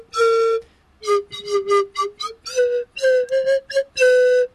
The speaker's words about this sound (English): I think in closing, if you would kindly close the show with a little tune on your slide whistle, I think that would be really good.